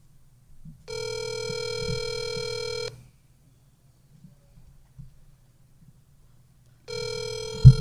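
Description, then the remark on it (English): An outgoing phone call ringing with no answer: a steady electronic ringback tone sounds for about two seconds, falls silent for a long pause, then starts again over a low background hum. “No, she's not answering.”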